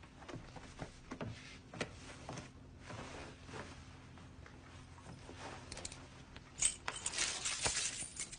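keys being picked up

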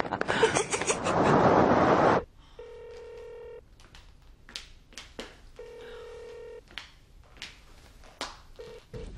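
telephone ringing

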